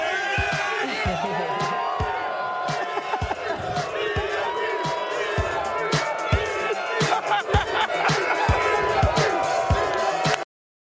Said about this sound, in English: I'm going to let the crowd take us out.